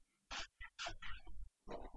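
A sow grunts in a few short, rough bursts with brief pauses between them while being scratched with a horse curry comb, and no one speaks.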